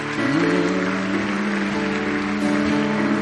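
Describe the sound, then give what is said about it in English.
Steady, dense clapping from a crowd at a worship gathering as people come to the front runs throughout as a continuous wash of noise, layered over sustained musical tones that hold beneath it. “No, don't stop clapping.”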